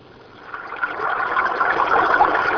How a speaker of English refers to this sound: The story starts with a babbling brook. Ever wonder why a brook babbles?